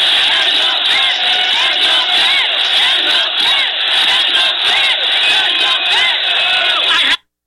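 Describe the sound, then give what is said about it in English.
A crowd of about 10,000 people in a full-size major city arena screams the chant "end the Fed" in unison, a loud, dense roar of many voices with rhythmic shouted surges that holds steady for about seven seconds before cutting off abruptly. “There were 10,000 of us in there, every person screaming, end the Fed. Now listen to it.”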